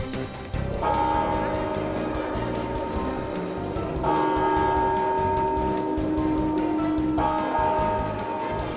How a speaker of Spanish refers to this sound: Este sin duda será el sonido protagonista del día, pero por primera vez el reloj de la Puerta del Sol va a marcar el cambio de año sin el eco de cientos de personas abarrotando el kilómetro cero de la capital.